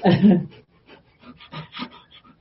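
A dog pants heavily, a louder breathy burst at the start followed by a steady run of quick, rhythmic huffs.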